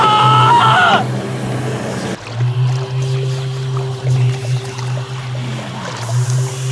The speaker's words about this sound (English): What the hell is that? A foghorn! I guess that. Where's it coming from? Well, it's a wild guess, but the ship, maybe?